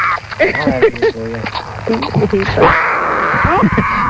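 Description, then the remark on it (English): Tiger cubs suckle noisily from a bottle, with wet sucking sounds mixed with short whiny grunts and mews, ending in a steady rushing noise. “If we can play that audio with those tiger cubs drinking that bottle, that was so cool. Can you hear the suckling?”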